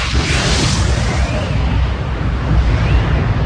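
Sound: mine gas explosion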